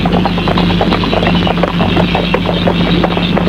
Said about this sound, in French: Enfin, elle entend le bruit du fiacre.